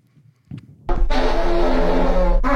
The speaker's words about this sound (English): Ooh, an elevator is a good choice. Yeah, yeah. Look at lots of echo. Wait, is he just like doing, just like you take a picture every day, he's farting in the elevator every day and like taking a compilation?